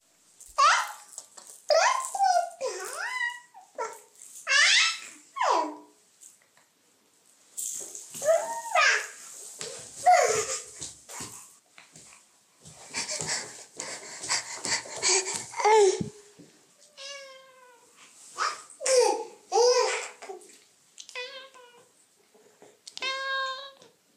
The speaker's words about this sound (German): wie klingt es eigentlich, wenn man eine Katze jagt?